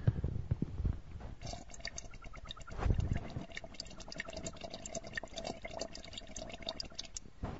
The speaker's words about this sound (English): I gotta hit some fucking bong. I gotta hit my bong, operator, one second.